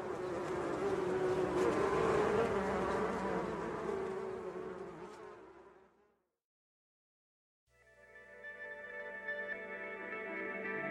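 Bees buzz in a dense, continuous drone that fades out, leaving a brief silence, then a steadier, harmonic buzzing hum returns, moderately loud, with no voices.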